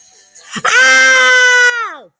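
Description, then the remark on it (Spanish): A single piercing, high-pitched, chilling scream rings out in the distance, coming from the pool, held steady for about a second before its pitch slides down as it fades. It is loud and stands alone, with no talking. “Bailábamos, reíamos y bebíamos sin parar, cuando de repente a lo lejos se escuchó un grito muy agudo y escalofriante.”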